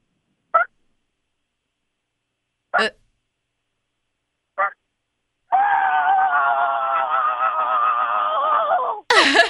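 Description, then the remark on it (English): A person imitates a chicken with three short, evenly spaced clucks, then a long, strained, wavering squawk that cuts off abruptly before a final sharp burst. “I'm going to do a chicken.”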